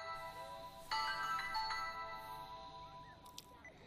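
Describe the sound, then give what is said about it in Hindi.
A phone rings with an electronic melodic ringtone: sustained bright tones with a few note changes, fairly faint and steady, heard alone without any talking. “मैंने 2-3 बार फोन किया, तुमने फोन नहीं उठाया।”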